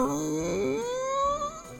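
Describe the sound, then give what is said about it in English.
A woman crying at a front door in a long, wavering wail whose pitch climbs steadily higher before trailing off with a few faint catches of breath, with no talking. “And saw a beautiful woman crying.”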